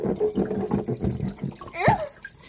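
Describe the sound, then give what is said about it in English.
Water runs and splashes in a steady, uneven wash, with a brief squeaky, rising sound breaking through near the end. “Why don't we give this bad boy a wash, right?”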